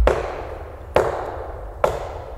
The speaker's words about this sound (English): McCall shot his gun at a nearby tree as a warning.